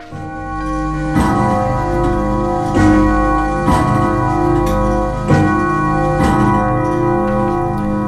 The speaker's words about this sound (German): der Wecker klingelt, die Zeit ist vorbei. Aufstehen.